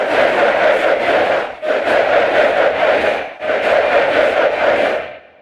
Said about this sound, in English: Then they combine the two so that a few Zoom recordings becomes a stadium full of angry soccer fans.